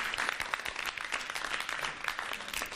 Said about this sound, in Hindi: Team B के total points होते हैं 40 पॉइंट्स। तालियों से इनकी हौसला अफजाई कीजिएगा।